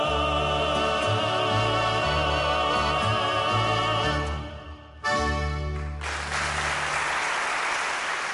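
A band plays the closing bars of a song, the music drops out briefly, then an audience bursts into loud, steady applause for the final few seconds, with no one talking.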